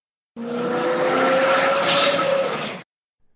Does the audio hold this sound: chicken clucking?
no